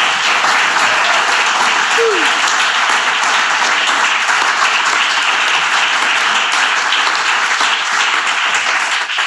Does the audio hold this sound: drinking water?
no